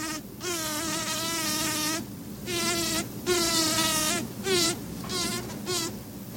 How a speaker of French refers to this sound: Un grésillement, un vrombissement aigu de quelques dixièmes de seconde ou quelques secondes, puis un silence, puis un nouvel accès de grésillement. Écoutez.